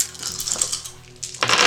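Dice rolled as a check for attention clatter and tumble across a hard surface, a series of quick, bright clicks and rattles that end in a louder burst of clattering. No one speaks.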